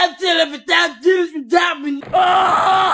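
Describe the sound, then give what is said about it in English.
A man yells in loud, rising bursts that break into a sustained, strained scream near the end, harsh, with no other sounds around it, as he runs from a bathroom. “The man runs screaming from the bathroom”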